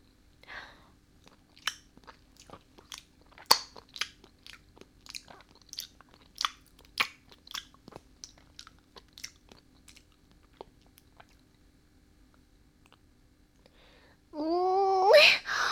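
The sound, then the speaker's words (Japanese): Crisp crunching and biting mouth sounds repeat in an irregular rhythm for several seconds, fading into quieter smacks before a sudden louder tonal sound near the end. “じゃあ、まずは手と足を粉々に咀嚼してあげる。”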